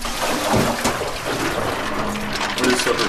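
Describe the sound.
Water streams steadily from a kitchen tap as a religious brother rinses mussels for the evening meal, splashing in a continuous rush with faint clinks, while an 87-year-old religious sister hums softly in the background.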